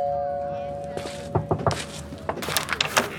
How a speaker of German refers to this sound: ging Basti langsam die letzten Meter bis zu Ellas Tür und betätigte die Klingel